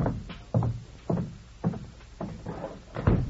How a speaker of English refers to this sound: Please step outside and close the door.